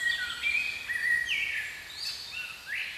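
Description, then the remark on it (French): A spring chorus of many birds singing at once, overlapping chirps and warbling phrases filling the air steadily at moderate volume, with no one speaking. “La bande-son du printemps, chorale d'oiseaux, impression de renouveau.”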